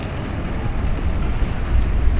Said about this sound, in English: I will get some audio tomorrow on the Badger, which is the ferry. You can hear the sound of Mobile Podcast Command being backed into this ferry. I don't know why they backed it in, but standing right here waiting to get on this giant ship.